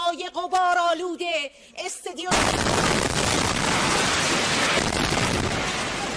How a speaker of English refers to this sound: The woman ran off the set once the explosion started. She later said a few colleagues were hurt.